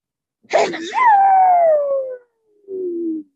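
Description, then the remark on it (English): A single loud sneeze: a sharp breathy burst followed by a long, drawn-out voiced tail that falls in pitch, then a brief pause and a short trailing vocal sound. “Bless you.”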